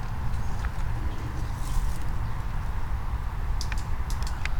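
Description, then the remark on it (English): Sharp, scattered snaps and cracks like twigs breaking, made by a flicker woodpecker in thick underbrush inside a fence line by a pond, about 1 to 4 meters away. They come in small irregular clusters over a steady low rumble, with no one speaking. “You hear that snapping sound? Whatever it is, it's only 1, 2, 3, 4 meters away.”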